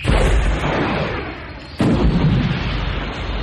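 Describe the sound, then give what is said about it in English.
Sci-fi plasma cannon fire from two skips and its impacts form a loud, dense, rumbling barrage, broken by a sharp, forceful blast about halfway through before the heavy bombardment continues. No voices are heard. “She sideslipped to port, and as both streams of plasma cannon fire followed her, the fire from the starboard skip crossed the body of the portside skip.”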